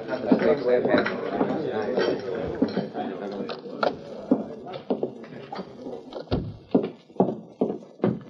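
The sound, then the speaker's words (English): The Lone Ranger's horses, Scout and Silver, clip-clop at a steady walking pace. At first a murmur of voices and a busy clatter nearly bury them, then the sharp clops stand out clearly. “The Lone Ranger went to the rear of the restaurant, past the saddle shed, then entered a thicket of cottonwoods where Tonto had been waiting with the horses, Scout and Silver.”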